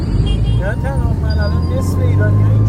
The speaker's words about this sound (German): Die Stadt lebt zu jeder Tageszeit. Motorräder drängen sich zwischen Autos hindurch. Irgendwo hupt immer jemand.